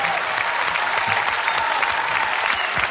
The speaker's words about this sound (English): Venez ici, venez ici, venez ici. On va bien se mettre face à elle et on va l'applaudir.